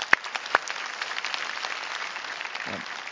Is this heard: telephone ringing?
no